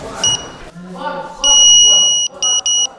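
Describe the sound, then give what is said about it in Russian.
A metal detector, used to check people for metal objects such as phones and electronic watches at a Unified State Exam (EGE) event for parents, beeps with a high, shrill electronic tone: one short blip, a long steady beep, then two quick beeps in a row, while a person talks underneath. “Он покажет сразу любой металлический предмет, сразу будет реагировать. В общем, он все показывает, металлодетектор.”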